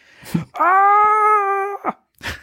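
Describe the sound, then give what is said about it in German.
A man lets out a long, sustained scream as he tips out of a letter and falls to the ground, held at a steady pitch for over a second, loud and strained, framed by short breathy bursts before and after. “Alle hörten den Schrei, fuhren herum und bekamen noch mit, wie Doug Coulter aus dem Buchstaben kippte, hab ich noch nie gehört, und zu Boden stürzte.”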